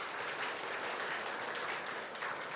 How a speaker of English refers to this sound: You can give the Lord a clap of praise if you want.